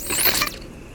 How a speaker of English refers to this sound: Boo, hiss, do you hear that? Can you be more specific? That wind, ushering in a new day for Coupmore Ridge.